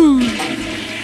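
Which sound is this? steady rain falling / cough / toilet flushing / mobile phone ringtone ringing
toilet flushing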